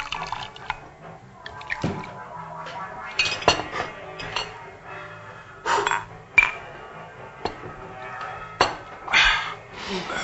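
At a restaurant table, Stolichnaya vodka is poured for a toast to friendship: glasses clink several times over a trickle of liquid being poured, with light clattering of dishes and a few faint murmurs in between.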